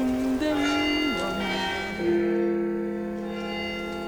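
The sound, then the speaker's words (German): Carillon bells play a slow melody in the Red Tower (Roter Turm), a few sustained, ringing notes stepping from pitch to pitch and overlapping as they decay, fairly loud and resonant with no voices. “Haben Sie schon mal das Glockenspiel im Roten Turm gehört?”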